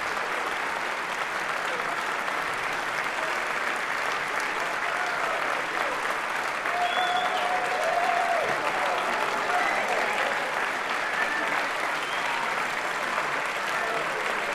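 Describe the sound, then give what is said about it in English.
An audience claps after a band's performance of Thelonious Monk's music, a dense, even wash of applause holding at a constant level, with a faint whistle or cheer rising briefly partway through. “Let's hear what he's going to say to this audience that's applauding his music.”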